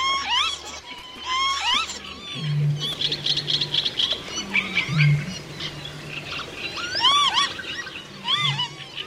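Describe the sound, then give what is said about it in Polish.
Northern lapwings calling repeatedly, their wheezy, slurred rising-and-falling whistles overlapping as if from a flock, over a low steady hum in the background. “Taka czajka.”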